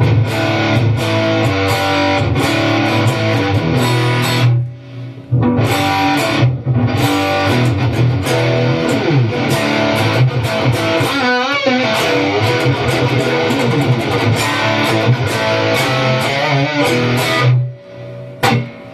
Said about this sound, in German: Genau, es ist jetzt ein 5150-Profil hier gerade, was wir hören. Wo wir mehr Gain natürlich noch brauchen. Natürlich mit ein bisschen High drauf. Und ja. Ich hau jetzt mal den Gain hier wieder rein.